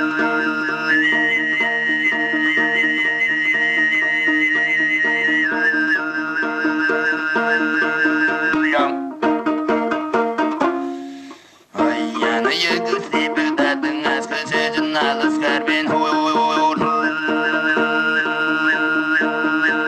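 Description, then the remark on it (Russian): A rare archival recording from Tuva of Tuvan throat singing: a steady, buzzing low drone carries a bright, whistle-like overtone melody above it. A brief break comes midway, then the drone and overtone resume. No talking. “Слышали редкую запись из Тувы, образец горлового пения.”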